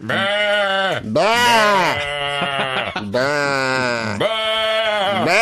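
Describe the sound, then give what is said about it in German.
A person mimics a sheep with loud, wavering bleats, several drawn-out "baa" calls in quick succession, strongly voiced with a nasal, quavering tone. “Habt ihr nicht schon mal Schafe nachgemacht? Bäh.”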